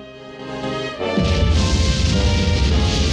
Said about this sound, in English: The rocket launches.